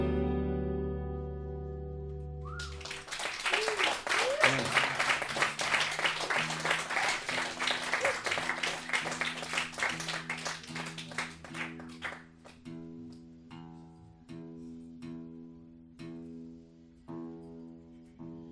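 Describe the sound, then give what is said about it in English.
A sustained musical chord fades into a burst of dense crowd applause that gradually thins to scattered individual claps, with low tones holding underneath throughout. “Like, jeez, you guys got to give yourselves a round of applause.”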